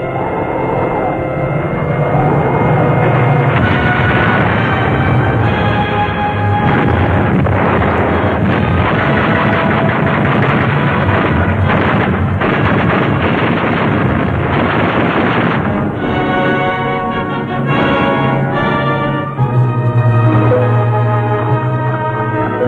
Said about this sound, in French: La dure bataille défensive continue à faire rage. Les avions soviétiques attaquent.